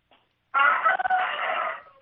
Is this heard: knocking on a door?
no